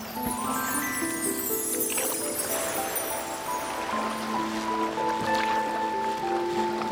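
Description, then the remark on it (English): A longboat moves steadily through ocean water, with continuous splashing and sloshing of waves for the whole stretch, fairly loud, while sustained musical tones ring over it. “Drop anchor here, mates. We'll have to take the longboat the rest of the way.”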